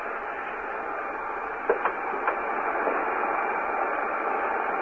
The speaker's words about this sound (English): We have that vacuum cleaner with us today. We're going to attach it to the studio organ and then play. This is the vacuum cleaner. Listen. Hear it?